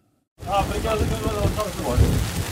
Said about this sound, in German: Ein Gewitter zieht über die Hänge des Ararat. Regen prasselt gegen das Zelt, dann Hagel. Die Temperatur liegt knapp über dem Gefrierpunkt.